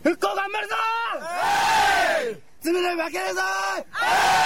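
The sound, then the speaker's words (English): A group of children in a huddle in a tsunami-wrecked fishing village in Fukushima chant a drawn-out call together, then erupt into a loud burst of cheering; the rising call and noisy cheer repeat a second time, energetic. “And together they formed this huddle. And in the huddle, they cheer.”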